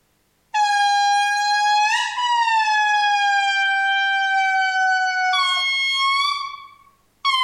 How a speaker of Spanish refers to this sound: Lo que vas a escuchar ahora sí es un dúo de lémures indris y esto es parte de la investigación que comprobó que tienen ritmo musical y pueden una cantar.